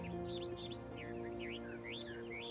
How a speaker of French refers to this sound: Pourtant, au volet d'une fenêtre, il y a une cage. Et dans la cage, un ravissant oiseau bleu qui se met à chanter de toutes ses forces